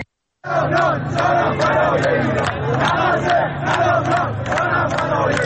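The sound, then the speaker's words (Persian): A large crowd of protesters at Falakeh Avval in Gohardasht, Karaj, Iran, chants mostly political slogans in unison, voices rising and falling in a steady rhythmic cadence, loud and continuous after a brief silent start, with sharp accented syllables punctuating the chant. “ویدیوهای تازه‌ای که در شبکه‌های اجتماعی منتشر شده، معترضان در شهرهای تهران، شیراز، گوهردشت کرج، قهدریجان اصفهان، مشهد، اندیمشک و کرمانشاه در حال سر دادن شعارهایی با مضامین اغلب سیاسی مشاهده می‌شوند.”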